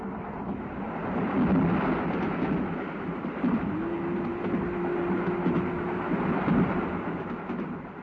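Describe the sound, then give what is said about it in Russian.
A passenger train with compartments rolls steadily along the rails as it makes a turn, a loud continuous rumble with faint rhythmic clatter, and a sustained whining tone rising out of it for a few seconds midway. “Поезд сделал поворот и перенес солнце из коридорного окна в окно купе.”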